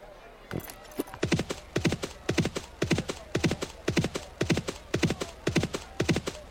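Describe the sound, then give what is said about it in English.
Rapid, rhythmic horse hooves galloping in steady groups of beats, loud, continuing evenly for several seconds with no talking, in a horse race game. “Your opponent's horse position on the track is 39. Your position on the track is 57. The sounds pan, I think, the closer you get to the finish line.”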